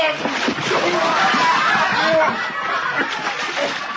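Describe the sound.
Water splashes and sloshes steadily for several seconds as a man is dropped into water, fairly loud, with voices and snickering laughter mixed underneath.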